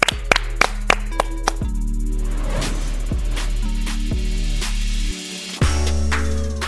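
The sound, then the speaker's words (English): Scattered sharp claps ring out over steady music with a deep bass line, a handful of people clapping loosely rather than in a full, even round of applause. “Clap it up.”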